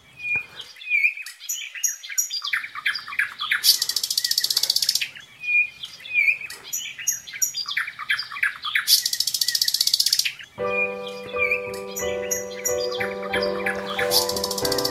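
A dense chorus of birdsong with many overlapping chirps, trills and whistles, bright and lively, joined near the end by sustained harmonic tones like a musical accompaniment beneath the birds.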